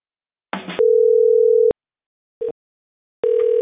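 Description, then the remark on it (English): A steady electronic phone tone sounds in long, evenly spaced bursts with silent gaps between them, clear and fairly loud over the line, while a caller is being connected to a licensed Medicare agent, with no one talking. “So it's ringing now.”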